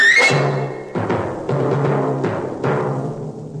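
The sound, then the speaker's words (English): Kettle drums strike a series of loud, booming blows, about five irregularly spaced hits that stand for the hunters shooting their guns, each ringing out over sustained low orchestral tones. “And when the hunters shoot their guns, that's the kettle drums.”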